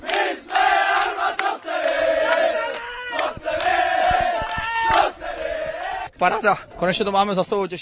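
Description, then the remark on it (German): The Ústí nad Labem football team cheering and chanting together in their dressing room after a 1:0 win over Vlašim that secured a second-league promotion place, loud sustained shouts with rising and falling pitch, breaking briefly before a burst of rhythmic whooping. “Nach der Partie herrschte ausgelassener Jubel in der Kabine der Elbestädter”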